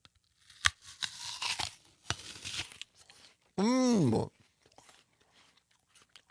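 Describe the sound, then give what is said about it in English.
A loud, crisp crunch as teeth bite into a crisp, juicy apple, followed by several wet, crackling chewing crunches, then a short wavering hummed voice sound of appreciation. “So forgive us for eating it in front of you, but listen to this pop.”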